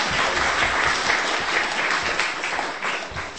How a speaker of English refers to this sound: Do you want to give a round of applause? That was better.